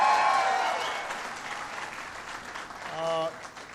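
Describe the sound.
An audience claps steadily in a dense, noisy wash of applause that gradually tapers off, with a brief voice rising over the fading claps near the end.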